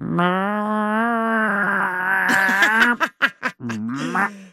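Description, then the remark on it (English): A person imitates a neighbour's noisy backyard chickens with a long, strained, drawn-out squawk, then several quick clucking bursts and a final squawk. The voice is loud and alone. “My neighbor used to have some chickens in her backyard”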